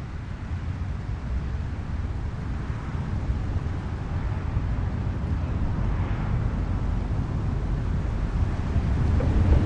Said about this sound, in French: Cette nuit-là, le vent du nord vint jouer dans la forêt. Il s'amusa à souffler sur les feuilles avec son haleine glacée et à les faire tomber à terre.